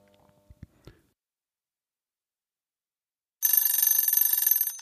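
A small alarm clock, which rings once an hour as a reminder to do the rounds, bursts into a loud, continuous metallic bell ringing after a few soft knocks and a long stretch of silence, rattling steadily until the end.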